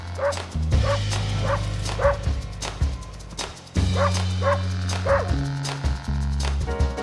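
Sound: dog barking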